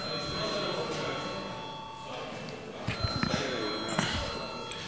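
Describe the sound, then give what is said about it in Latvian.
A bell in the Latvian parliament (Saeima) chamber rings steadily for several seconds before a vote, its bright sustained tone carrying over murmuring voices, shuffling, and a few soft thumps. “Lūdzu zvanu.”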